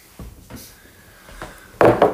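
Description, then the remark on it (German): A few soft wooden knocks and scrapes, then a louder, dense thud around the end as a door swings shut, with no voices present. “Soll ich mal die Tür zu machen?”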